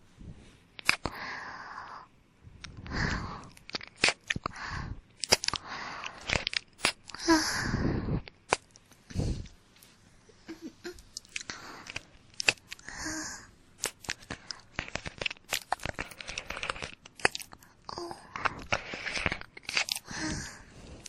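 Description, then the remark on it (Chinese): Wet, crunchy mouth sounds of biting and chewing on an ear: irregular smacks, clicks and nibbles in uneven bursts with brief breathy pauses, fairly soft, with no talking. “你的耳朵真好吃。”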